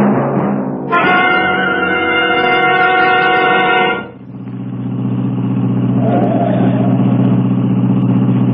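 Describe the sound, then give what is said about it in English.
A car engine rumbles steadily and loudly throughout while driving in heavy traffic, with a long, bright horn-like tone sounding for a few seconds near the start before the drone continues alone. “Who can relax in this mess of traffic?”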